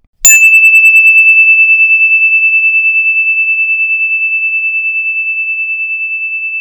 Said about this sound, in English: It's going to be a story bell. And when you hear this story bell, put your hands up in the air. When you can't hear it anymore, put your hands down, and then the story will begin. Here it comes.